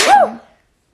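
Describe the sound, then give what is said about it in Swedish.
A single sharp sneeze: a sudden hissy burst with a voiced rise and fall, fading within half a second and followed by silence. “Prosit.”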